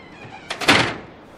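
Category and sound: household object, door opening and thudding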